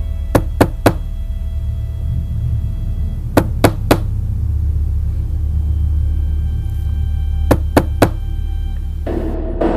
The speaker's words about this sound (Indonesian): Aku pun keluar dari kamar kosan dan menggedor pintu kamar sebelah.